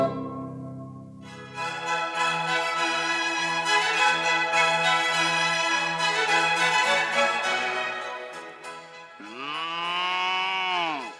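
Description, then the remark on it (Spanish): Several cows moo loudly, one long drawn-out bellow stretching most of the time, followed by a shorter rising-and-falling moo at the end. No one speaks. “Amigo ganadero, sus vacas distinguen lo mejor.”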